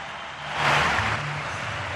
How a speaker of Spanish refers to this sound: Están aplaudiendo ahora. Así suena el Garpena.